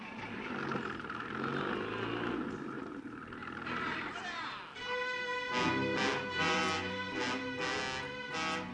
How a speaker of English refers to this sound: Stop the engine! Stop the engine!